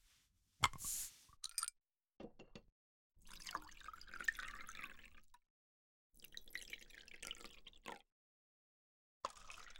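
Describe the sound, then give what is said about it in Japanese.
Beer is poured into a man's glass at a shabu-shabu meal in several short bursts with pauses between, a gurgling, fizzing splash, opening with a brief click or clink. “あ、そうだ、ビールお注ぎしますね。さあお兄さん、グラスをどうぞ。”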